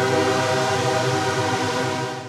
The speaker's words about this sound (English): We have a railroad that comes right through the middle of the city. You can hear it come through four times a day.